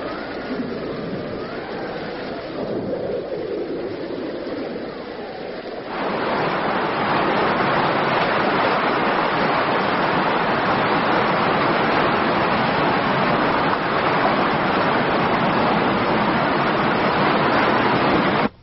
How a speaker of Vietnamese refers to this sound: Đốc à, bây giờ là mưa thu, thôi thì chúng ta hãy tạm rút lui đi, đợi mưa xong rồi mới tiến quân, như vậy thì cũng tiện hơn đó.